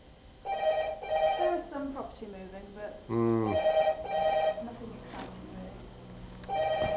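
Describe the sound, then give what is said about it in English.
A telephone rings repeatedly in short bursts with a steady rhythm, fairly loud, while a man talks over and between the rings. “Do you want to ditch me and grab the phone?”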